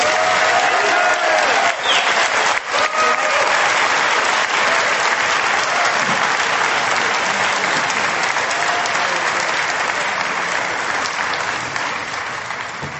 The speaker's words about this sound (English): Way to keep clapping.